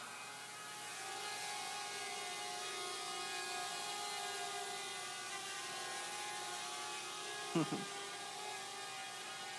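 An M200 quadcopter drone hovers during a live demo, streaming video back to a laptop running IoT Edge, with a steady, high-pitched buzzing whine of its rotors that holds constant throughout, broken only by a brief knock near the end.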